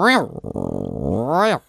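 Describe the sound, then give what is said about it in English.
A voice imitates a Geiger counter: one continuous, fluttering, rattly vocal buzz lasting under two seconds, rising in pitch at the start and again at the end, with a rapid pulsing in the middle. “If it was an actual radioactive site, it would have gone...”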